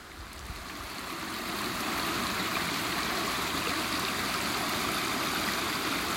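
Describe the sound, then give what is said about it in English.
Howsteen Beck, a shallow stream not in full spate, flows steadily in drizzle, a continuous bright rush and babble of water that swells over the first two seconds and then holds even, with no voices. “I'm now standing right in the middle of Howsteen Beck.”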